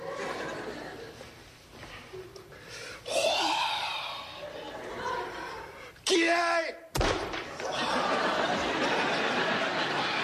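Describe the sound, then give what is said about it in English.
A single sharp, solid, loud thud of a man's head knocking against a wooden board in a practice swing at breaking it with his head, surrounded by strained vocal grunts and exclamations with a noisy, lively background. “Okay, that was a practice swing.”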